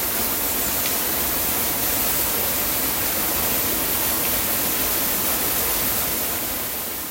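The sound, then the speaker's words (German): A waterfall near Anhausen roars steadily and loudly, a dense, unbroken rush of water that stays constant throughout with no voices or other sounds. “Wasserfall bei Anhausen.”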